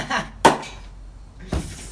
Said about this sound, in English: How could you open the bottle and don't even drink?